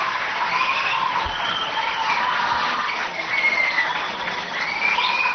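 Sustained audience applause, a dense steady wash of clapping that stays fairly loud for about five seconds, with a few high whistle-like streaks cutting through and no talking.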